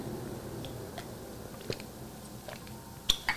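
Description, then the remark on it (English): Quiet mouth sounds of someone sipping tea: a faint wet slurp over soft background hiss, ending in a couple of sharp little clicks and smacks. No one speaks. “I will sip a little bit of tea right now, though.”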